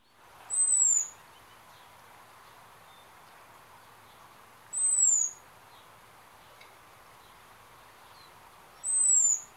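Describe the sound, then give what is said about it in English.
Three thin, very high-pitched 'seet' notes from a robin's alarm call, each brief and slightly descending, spaced about four seconds apart over a quiet hiss, with no voices. “I think Trina's got a call that relates to the sea call, I think it's called.”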